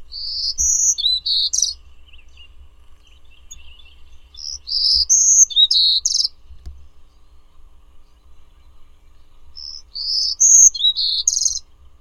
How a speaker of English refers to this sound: Birdsong was provided by National Audubon Society Birdsong Collection, Lang Elliott Music of Nature.